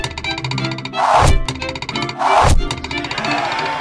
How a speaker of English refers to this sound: His three arrows all hit the bullseye.